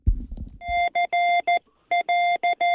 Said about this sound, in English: What was that, Morse code? What was that? That sounded like Morse code. Yeah, it was my Morse code call letters, and I didn't do it too good